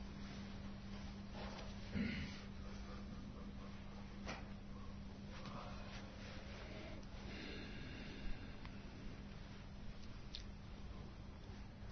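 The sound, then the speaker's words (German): Slow, deep breaths consciously drawn in and let out two or three times, soft, with a few sharper inhales over a steady low hum and faint background hiss. No one speaks. “Atmen zwei, dreimal ganz tief, bewusst ein und aus.”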